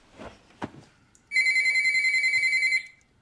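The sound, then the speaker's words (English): A cordless telephone sitting on the toilet system rings with one sustained, loud, rapidly warbling electronic trill, after a few soft rustles and a brief knock. No one speaks. “Deanna, can you get that?”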